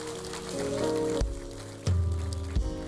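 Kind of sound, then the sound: crowd, audience clapping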